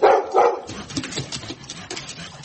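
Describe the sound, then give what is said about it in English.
A dog being handed over in exchange for money gives two quick, loud barks, then settles into softer, restless whimpering and yelps against a noisy, rustling background, with no one talking. “You give me the money, and I give you the dog.”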